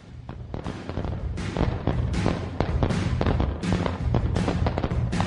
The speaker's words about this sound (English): It's been so long that since Jimmy G has been with us, that I think we're going to have to set off some fireworks.